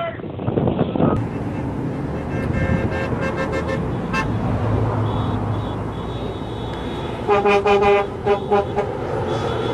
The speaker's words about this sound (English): It's going to take them 30 minutes to get all these vehicles rolling, so they got to start rolling now.